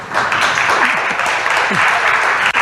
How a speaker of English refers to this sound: didn't mean to get an applause for that, but obviously you agree.